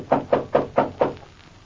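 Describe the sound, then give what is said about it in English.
Five firm knocks on a wooden door in a cemetery at night, evenly spaced in a quick steady rhythm, fairly loud, followed by quiet. “Oh, here's the door.”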